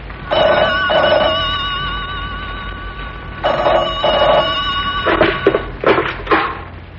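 A telephone rings twice with a bright, warbling electric bell, each ring lasting about a second, followed by a few sharp clattering knocks, fairly loud with no one speaking.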